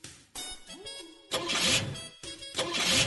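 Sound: car engine starting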